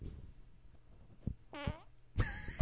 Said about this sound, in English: I got a fart coming.